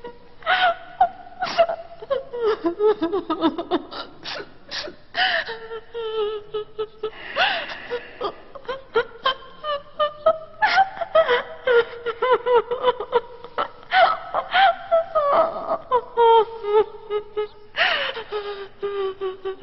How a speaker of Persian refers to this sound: معلوم هست این دختر چشه؟ جدن نفهمیدی؟ چقدر خنگی داره برای ابن روش گریه میکنه دیگه.